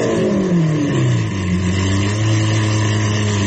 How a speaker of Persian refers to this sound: مثلا این الان ببینید صدای گریه یک ماشینیه که داره یه گوشه‌ای برای خودش آروم گریه میکنه، نمیخواد ریا باشه.